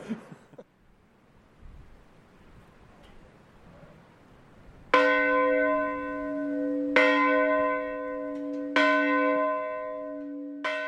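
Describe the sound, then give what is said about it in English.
A village church bell tolls slowly, four deep resonant strikes about two seconds apart, each ringing on with long harmonic decay, rung yearly at 2:30 a.m., the moment the Titanic sank, for the people who drowned. “Every year, at the moment that the Titanic sank, 2:30 a.m, the village rings its church bell.”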